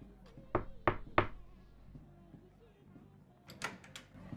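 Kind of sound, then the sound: household object, knocking on a door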